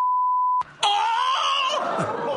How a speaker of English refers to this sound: Oh! Oh, I think it would be a beep. That's fine.